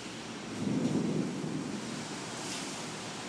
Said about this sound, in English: It sounds like the rain has sort of died down somewhat. It's still thundering quite a bit though. Hopefully this recording is picking all this up.